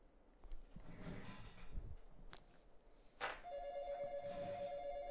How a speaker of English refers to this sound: Boy, we got phones going off all over the place, folks.